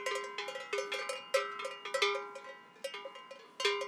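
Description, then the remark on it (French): Metallic bells worn by grazing livestock in the high mountains clank irregularly, several overlapping at different pitches, with uneven rhythm as the animals move their heads while grazing. The clanks are moderately loud with ringing overtones and no voices. “Et en haute montagne, les cloches sont bénéfiques parce que lorsqu'il y a de la brume, on peut situer les bêtes à la cloche.”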